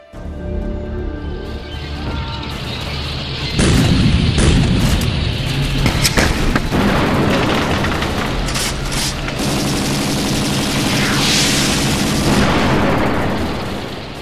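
Dense battlefield din of rapid machine gun bursts mixed with heavy booming explosions of tank shells and mortars fired by Iraqi Baathist forces, sustained and loud throughout, with sharp cracks and rumbling blasts layered together, no voices.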